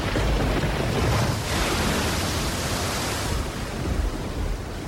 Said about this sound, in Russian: Пока он рассуждал, вдруг стало темно. Задули со всех 4 сторон ветры, и корабль был застигнут ужаснейшей бурей ввиду Лиссабонского порта.